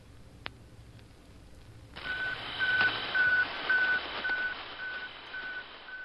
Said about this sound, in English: The Russian space satellite, the first launched by man, is circling at 560 miles altitude, and its radio signals are being received now by RCA in New York. Stand by and listen. Here is the sound.